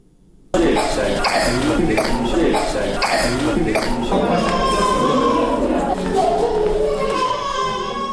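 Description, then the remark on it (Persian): Sick children with chest and respiratory illnesses moaning, crying and coughing at Indira Gandhi children's hospital, a dense, continuous wash of young voices with sharp coughs breaking through, loud and unbroken after a brief quiet start. “صدای ناله و فریاد کودکان بیمار در شفاخانه اندراگاندی است که به بیماری سینه و بغل و مجرای تنفسی مبتلا شدند.”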